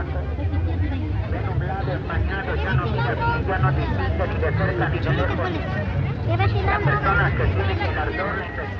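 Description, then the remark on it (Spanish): Dense crowd chatter from a busy market fills the scene, many overlapping voices blending into a steady, fairly loud hubbub with no single speaker standing out, and a low rumble beneath. “mercado con su papá y sus tres.”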